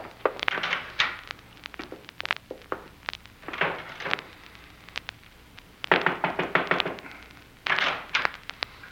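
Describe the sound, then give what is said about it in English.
A door is handled and shut, with a series of sharp knocks and clunks coming in bursts, some quick rattling taps between heavier thuds, and no voices. “I didn't mean to close the door on your face”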